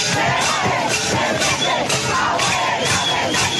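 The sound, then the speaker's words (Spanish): A loud protest crowd shouts and chants continuously at night in Jagüey Grande park, in front of the government headquarters, while metal pots are banged in a steady, repeated clanging rhythm throughout. “Grita una multitud mientras tocan calderos en medio de la oscura noche.”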